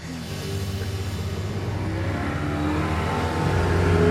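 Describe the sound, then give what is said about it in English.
A boat motor revs steadily as the boat is being parked, its low droning hum building slightly in pitch and loudness toward the end, with no voices over it. “Should I go park the boat?”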